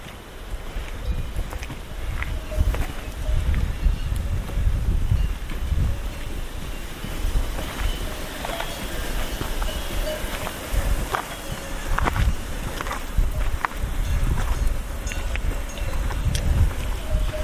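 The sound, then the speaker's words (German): Cowbells on cows on an alpine pasture clank irregularly over a steady wash of rushing water and gusting wind in an open outdoor setting, with no voices present. “wenn die Bauern dort ihre Kühe die Alm runtertreiben, dann hört man diese wunderbaren Kuhglocken”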